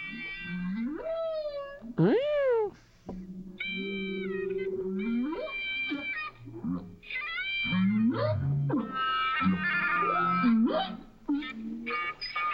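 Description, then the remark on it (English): High-pitched whale squeaks and sweeping whistles recorded live underwater, rising and falling in quick bursts over a low rumbling background, fairly loud and continuous for most of the stretch. “That very high squeak is actually the whale.”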